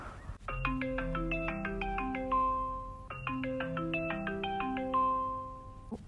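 phone call ringback tone

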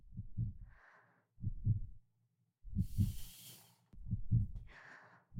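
heartbeat

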